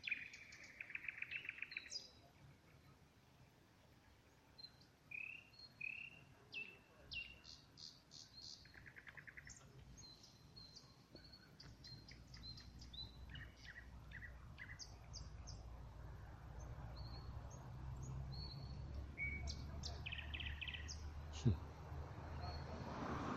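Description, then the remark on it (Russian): Several birds in a park sing overlapping trills and chirps, with rapid repeated high notes and short whistled phrases, over a steady low rumble of passing cars. “Да какие все разнообразные трели.”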